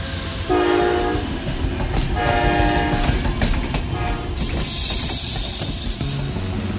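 A train rumbles past with a steady clattering roar, its horn blaring twice in long tones, followed by a rising hiss as it continues on.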